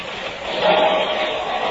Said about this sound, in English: Start the saw going.